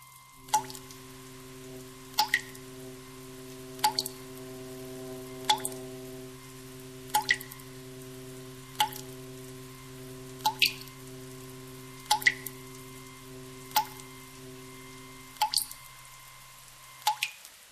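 Water drips at a slow, steady rhythm, roughly ten distinct drops about every second and a half, fairly quiet over a constant low electrical hum, as water is put on for coffee. No one speaks.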